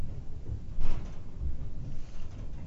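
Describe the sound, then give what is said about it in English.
A large, heavy green door rumbles open, with a low grinding drone and a brief scraping surge partway through, then steady rolling noise until the end. “Come right in. The big doors. Green doors. The big doors. They're open.”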